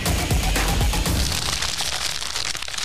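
A snack surprise bag rustles and crinkles steadily as someone reaches into it for about three seconds, a dense, crackly, hissing texture that stays fairly loud throughout and thins out slightly toward the end, with no voices.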